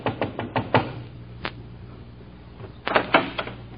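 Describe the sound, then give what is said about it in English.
Knocking on a door in the slums: a quick run of about five raps, a lone knock, then another short burst of knocks, fairly sharp over a low steady hum, with no talking. “When you knock my door, knock soft.”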